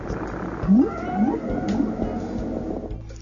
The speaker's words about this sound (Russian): Некоторые звуки – это песни, повторяющиеся фразы, весьма сходные с пением птиц. Только в этом случае таким певцом оказывается отдаленный кит.